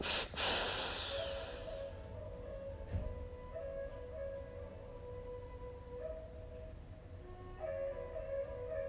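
A single sharp, deep inhale rushes in at the start, fairly loud, during a guided breathing exercise, then fades into a soft, steady droning musical tone that continues without further breaths.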